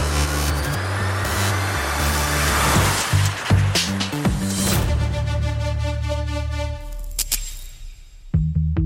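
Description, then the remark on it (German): A car engine runs loud, its deep throbbing hum rising and falling with a few revs before easing off, followed by a couple of short mechanical bursts near the end. “Also nichts gegen E-Autos, aber das Motorengeräusch fehlt einfach.”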